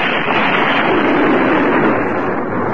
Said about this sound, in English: Sometime later, there's an explosion from the building's interior.